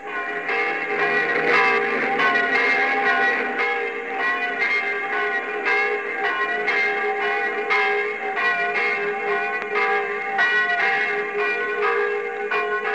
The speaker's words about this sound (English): Of this little Normandy church, 2 or 3 miles from Caen, wants me to say how sorry he is about these bells.